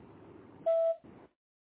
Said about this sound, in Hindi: कहीं व्यस्त होने के कारण मैं आपका फोन रिसीव नहीं कर पा रहा हूँ। जैसे ही फ्री होऊंगा मैं आपको कॉल बैक करूंगा। एक बीप के बाद आप अपना मैसेज मुझे छोड़ सकते हैं।